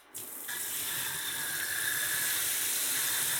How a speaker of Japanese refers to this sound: シャワーで流してくよ。目とか耳とか水入んないように気をつけるけど、あんたも一応目つぶったりして気をつけてね。